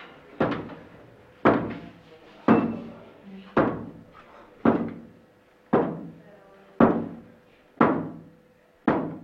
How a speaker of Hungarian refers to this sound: Ártani akarnak-e ezek a lények nekünk? Ha igen, koppancs 14-et, ha nem, akkor koppancs 3-at.